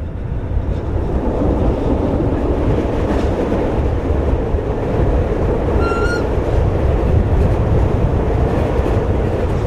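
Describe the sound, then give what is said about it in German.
A red-and-cream 1980s narrow-gauge train on 75 cm track rumbles and rattles steadily from onboard, running from Liestal into the Waldenburg valley with its windows open, a loud continuous low roar with clattering wheels, and a brief high squeal around the middle. No one speaks. “Die rot-cremefarbigen Züge aus den 80er Jahren rattern von Liestl ins Waldenburgtal darauf.”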